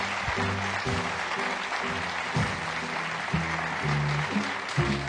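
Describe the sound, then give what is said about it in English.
A crowd in a tent claps steadily for several seconds, a dense, continuous wash of applause at moderate volume with no pauses. Faint low tones run underneath. “That was a long walk for no applause.”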